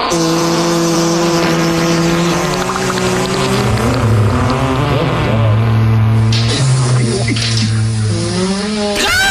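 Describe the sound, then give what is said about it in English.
A loud run of fart sound effects, low and buzzy with wobbling, sliding pitch, flowing one into the next for several seconds without any talking. “Please play him a bunch of fart sounds and a Geez Louise.”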